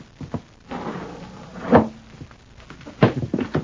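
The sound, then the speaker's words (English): A window is forced open: a few dull thumps and strained, grinding scrapes, with a sharp jolt midway and another burst of rattling effort near the end. “Well, we will just try this window.”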